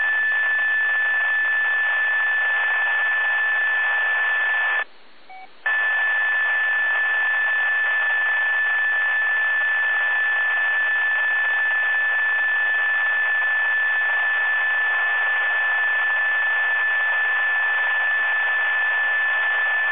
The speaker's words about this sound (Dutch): ik denk dat jij nog een extra knopje indrukt, waardoor wij een, nou, ik denk een 750 hertz pieptoontje erbij horen.